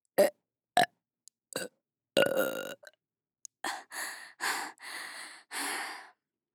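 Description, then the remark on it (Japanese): A person burps over and over, a few short sharp belches followed by a longer string of drawn-out, breathy burps, loud with no talking. “このままゲップサポしてくれるなら有料いいですよ。”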